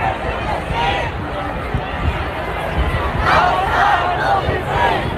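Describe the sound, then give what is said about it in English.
A large protest crowd at a Sunday rally in downtown Dallas chants the slogan "from the river to the sea, Palestine will be free" together, many voices shouting in a loud, rhythmic rumble over steady crowd noise that swells louder toward the end. “This was in Dallas on Sunday, where you can clearly hear the crowd chant from the river to the sea, Palestine will be free.”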